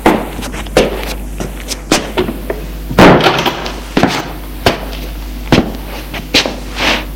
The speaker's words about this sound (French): Là, il ouvre une porte. Entre, c'est ma chambre. Émile entre, Patrick ferme la porte.